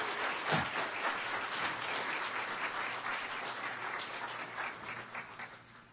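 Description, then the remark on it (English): A crowd at a church service in Arlington applauds steadily for several seconds to welcome a woman up to share her testimony, a dense wash of many hands clapping at a fairly even loudness, with a faint low hum underneath and no talking. “Can we clap and just welcome her up?”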